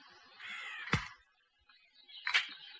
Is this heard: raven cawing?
yes